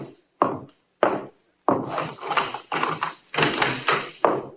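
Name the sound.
knocking on a door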